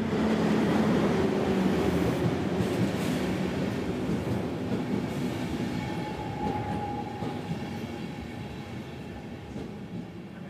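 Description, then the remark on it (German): A train on a mountain railway rumbles steadily downhill along the rails at an even gradient, running through rock past the sheer Martinswand cliff down into the Inn valley; loud, with a dense rolling roar and faint wheel squeal throughout, easing slightly in volume toward the end; no voices. “Die Strecke führt dann direkt durch den Fels und immer in einer gleichmäßigen Neigung hinunter durch die senkrechte Martinswand bis ins Inntal.”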